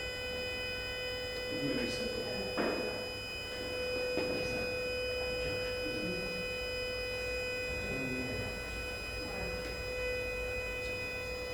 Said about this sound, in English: It's not a smoke alarm really, it's just the actual alarm of the building.